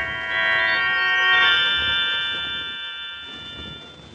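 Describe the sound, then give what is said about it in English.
A doorbell at the door of a bungalow converted into a duplex rings once with a bright, sustained chime that lingers and slowly fades over several seconds, with no one speaking. “I rang the doorbell.”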